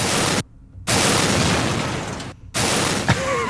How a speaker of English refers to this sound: The soundtrack of Call of Duty Ghosts. I mean, that's almost the soundtrack of Battlefield 4. Yeah. Those explosions would have been bigger in Battlefield 4.